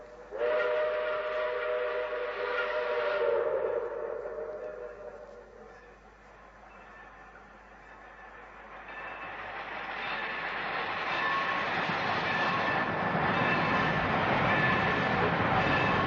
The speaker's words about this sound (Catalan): Escoltem... No sé si ve o se'n va. No, passa de llarg. Ah, passa de llarg. Sí. És com hi pujarem el tren. Clar. Ah, passa de llarg, però vol dir que hem pujat en el tren...